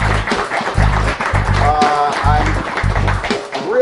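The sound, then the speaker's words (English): An audience applauds steadily and loudly for several seconds to welcome two special guests, with cheering voices mixed in and a regular low thumping beat underneath. “Why don't you both come on in here and give it up for them?”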